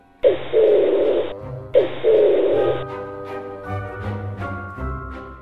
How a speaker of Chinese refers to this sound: 原来有一只大鸽子在爱丽丝的头上盘旋，并且大叫着